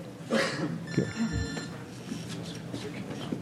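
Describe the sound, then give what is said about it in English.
A cell phone's electronic ringtone chirps briefly in an audience, a bright steady tone lasting under a second, amid the murmur and shuffling of a crowd taking their seats after a recess, with a dull thump. “All right, we're turning off our cell phones because the professional crew standing in back is looking grimly in our direction.”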